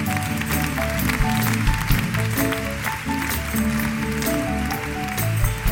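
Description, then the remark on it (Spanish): An audience at the Teatro Campos applauds the show's crew steadily, a dense wash of many hands clapping at an even loudness throughout, with a low tonal hum or music sustained underneath. “un aplauso para vosotros también.”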